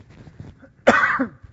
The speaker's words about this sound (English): I'm going to cough.